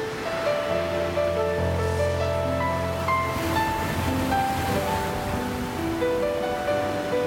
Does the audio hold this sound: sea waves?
yes